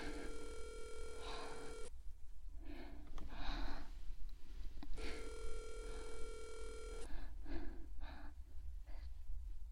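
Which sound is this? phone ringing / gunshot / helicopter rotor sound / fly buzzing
phone ringing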